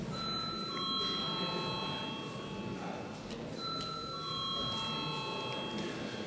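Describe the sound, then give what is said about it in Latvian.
An electronic voting bell sounds in a parliament before the deputies vote on a draft decision. Sustained ringing tones repeat in two long phrases over steady murmur and background noise. “Lūdzu, zvanu.”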